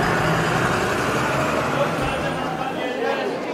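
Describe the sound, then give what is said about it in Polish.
A bus engine rumbles steadily, a dense, even roar of road noise that eases slightly toward the end as the bus arrives at a seaside town, with faint indistinct voices underneath. “Autobus dojechał do nadmorskiej miejscowości.”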